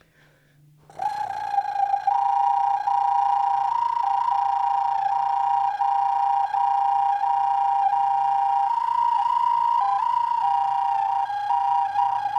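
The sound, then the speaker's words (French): A handmade flute of earth or ceramic sounds one loud, sustained, reedy mid-high tone with a rolling, buzzy flutter, dipping briefly between two close pitches and held steadily after a short silence. It is played to show its sounds of animals, wind and death. “Il fabrique des flûtes en terre qu'il montre en toute occasion. Il nous fait écouter ici leur sonorité d'animaux, de vent, de mort.”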